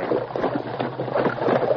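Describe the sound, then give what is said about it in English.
Horses ridden by the masked man and Tonto ford the shallow waters of the Rio Grande, with steady, churning splashes and sloshing. The sound is continuous and fairly loud, with no voices. “The masked man and Tonto forded the river.”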